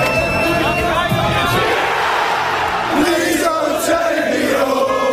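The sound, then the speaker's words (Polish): A large stadium crowd of England football fans in the English sectors erupts in sustained, loud cheering and shouting after England beat Switzerland in a Euro penalty shootout, with whoops and bellowing voices blending into a continuous roar. “Po ostatniej 11 w sektorach angielskich kibiców wybuchła radość.”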